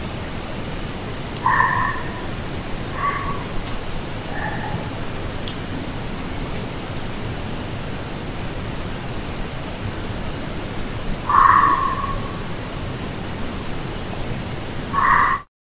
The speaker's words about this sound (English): So here's some weird barks, possibly foxes or coyotes. So we'll play this one time.